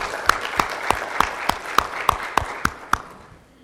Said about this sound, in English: We want to recognize anyone who has served. Please stand. Let's clap. Thank you so much for your service.